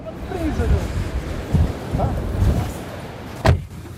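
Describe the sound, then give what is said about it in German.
Strong wind roars and buffets outdoors while heavy rain hisses steadily, with a sharp gust or splash near the end and faint, indistinct voices in the background. “Starker Wind ist aufgekommen, es regnet kräftig.”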